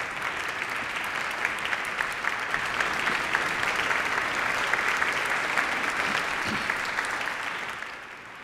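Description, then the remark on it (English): Sustained audience applause at Holy Family as people stand to applaud a woman being thanked, a dense steady patter of many hands clapping at an even loudness for several seconds before tapering off slightly at the end. “Why don't you just stand up and give her an applause?”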